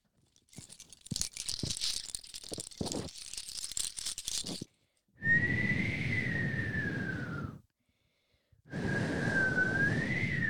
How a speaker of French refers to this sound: Il y a beaucoup de vent, mais peut-être que le vent pourrait nous guider.